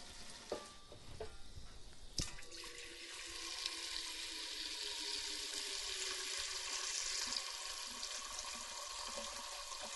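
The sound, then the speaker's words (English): A few metallic clanks, then a steady stream of water pours into a big metal pan as it is filled full of water, a continuous, fairly loud rushing hiss that runs to the end with no one speaking. “I can make you listen to water being poured into a pan”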